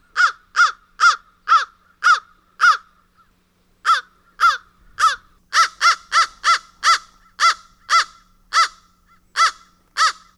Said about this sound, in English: So you are likely to hear the following. This is your classic East Vancouver crow.